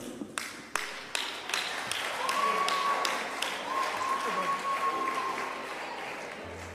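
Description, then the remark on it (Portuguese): An audience bursts into applause, a few sharp claps quickly swelling into steady, dense clapping, with a high sustained whistle ringing out over the crowd midway through. “Agora você não aplaude, né? Eu vou bater.”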